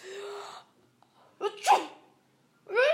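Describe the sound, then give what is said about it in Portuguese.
A person with a bad cold sneezes a couple of times in quick bursts, each preceded by a sharp inhaled gasp, fairly loud, with brief quiet gaps between them. “Espirrando muito.”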